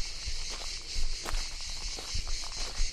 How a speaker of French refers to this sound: Et à nouveau, le chant des cigales se renforce. Chant, trille, grincement, saccade. Je ne sais pas quel est le mot